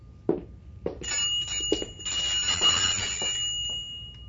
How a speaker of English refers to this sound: How does the environment feel after you rang the bell? What's the difference?